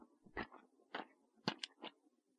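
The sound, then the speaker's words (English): Footsteps on wet shale: about five gritty, crunching steps in an uneven rhythm, each a short scraping crackle of loose stone, fairly quiet, with no talking. “anyone wants shale walking, here's your chance. And wet shale walking.”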